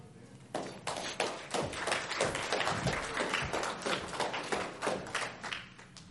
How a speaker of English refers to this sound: I appreciate you applauding me before I got up here. That was awesome of you.